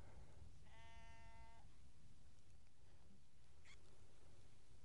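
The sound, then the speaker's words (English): A single sheep bleats once, a short wavering call, over a low rumble of wind on an open moor where sheep graze on the grasses, followed by a brief faint sound later on. “Apart from the sheep that are surrounding me, nibbling on the rich grasses of the moor, it is very lonely up here.”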